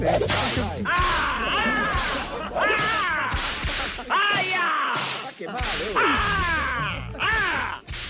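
whip lashes cracking

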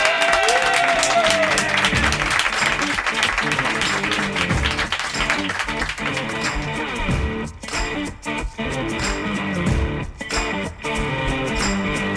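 audience applause

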